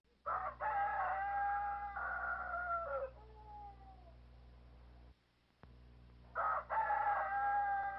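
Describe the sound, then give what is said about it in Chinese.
A rooster crows loudly before daybreak, a long harmonic call that trails off, then starts another crow a few seconds later over a steady low background hum. “快了，公鸡已经在叫，鸟也在叫了。”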